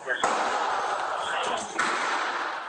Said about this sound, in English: Two additional gunshots are heard as they approach the exit doors to the dispatch center.